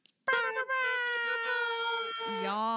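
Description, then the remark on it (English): Voices imitate an air horn by mouth to close out a show, with a single loud, blaring, buzzy tone held for about two and a half seconds, dropping to a lower pitch just before it ends. “Well, I ask all my guests, when I'm calling us out, like, do you mind doing a quick mouth air horn with me? Because that's how I play everything out.”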